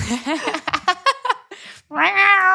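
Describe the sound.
A human voice imitates an angry, scolding cat: a burst of short, chattering mewls, a brief pause, then a long drawn-out grumbling yowl, fairly loud.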